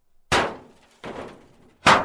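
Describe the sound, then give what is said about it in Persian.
Three loud metallic clangs of a sword clashing with a metal staff, each a sharp bright strike that rings out and fades, spaced unevenly with the second softer than the others. No voices. “صدای مهیب برخورد دو سلاح در اطراف صحنه تنین انداز شد.”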